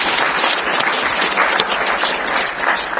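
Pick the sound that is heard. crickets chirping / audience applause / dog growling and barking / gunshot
audience applause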